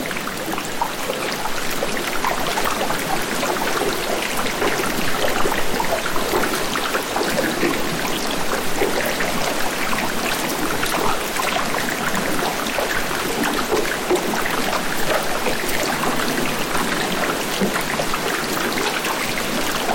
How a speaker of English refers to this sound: The other thing, too, is the sound of melt. And that can have a different inventory, whether you're hearing melt from a perspective of underwater, where you have the cavitation of bubbles, billions of bubbles popping.